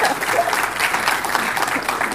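Steady audience applause, a dense wash of many hands clapping at an even loudness throughout, with no voices standing out above it.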